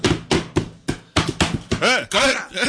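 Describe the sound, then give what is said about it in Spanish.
Four heavy, evenly spaced thuds of someone pounding on a door, then a loud voice shouting in rising and falling bursts over continued banging. “¡Ah, tira la puerta abajo!”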